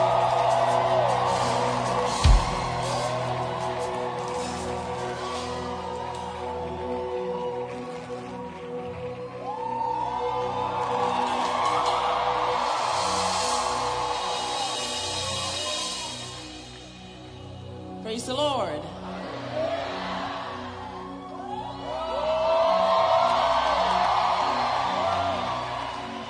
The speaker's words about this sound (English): Keep shouting. If she has been a blessing to you, keep shouting. Keep shouting if you're ready.